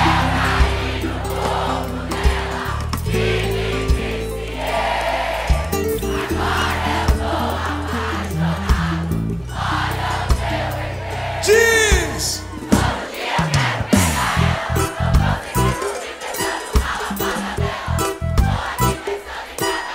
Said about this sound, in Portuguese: Aquele gritão gostoso, vá!